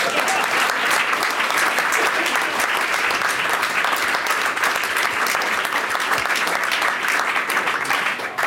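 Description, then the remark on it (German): Sustained audience applause in Mannheim while the hosts sit down, a dense steady wash of many hands clapping at an even, fairly loud level for the whole stretch, with no voices standing out. “An dieser Stelle Applaus, während wir uns hinsetzen.”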